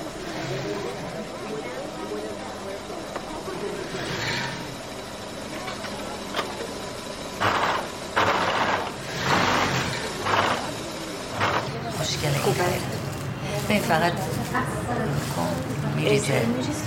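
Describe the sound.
A sewing machine in a workshop runs with a steady mechanical whir, speeding up in louder bursts midway, while people talk nearby in the background.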